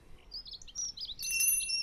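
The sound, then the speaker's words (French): Birds sing and chirp in spring in quick, overlapping high-pitched phrases, with a steady whistled tone joining in near the end. The birdsong is moderately faint over a quiet outdoor background. “Oui, sinon on entend les oiseaux, hein, c'est le printemps.”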